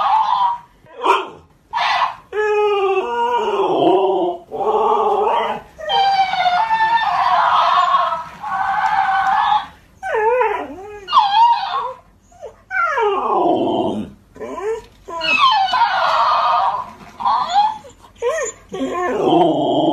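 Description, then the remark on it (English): A large Alaskan Malamute dog howls, yowls and whines in long, wavering bursts, trading back and forth with the high, chattering voice of a talking toy hamster, both loud throughout. “It's the Malamute and the hamster toy.”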